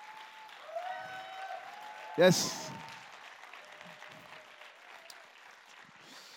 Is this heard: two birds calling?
no